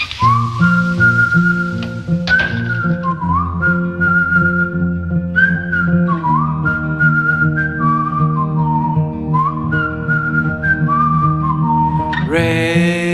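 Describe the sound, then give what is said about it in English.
Someone whistles a bright, wavering tune, sustaining long notes over steady low musical accompaniment, ending with a quick upward swoop. No one speaks. “Oh, maybe just whistle.”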